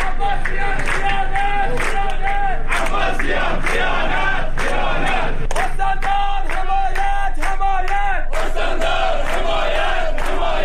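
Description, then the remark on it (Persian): A large crowd of workers from the Khuzestan rural water and wastewater company chants loudly in unison in front of the Khuzestan governorate, protesting unconverted contracts, three months of unpaid wages and three years of unpaid insurance. Voices rise and fall in a steady repeated rhythm with sharp bursts between phrases, continuous throughout. “کارگران شرکت آب و فاضلاب روستایی خوزستان در دور جدید اعتراضاتشان نسبت به تبدیل نشدن وضعیت قراردادها و پرداخت نشدن 3 ماه دستمزد و همچنین پرداخت نشدن 3 سال حق بیمه خود در مقابل استانداری خوزستان تجمع کردند.”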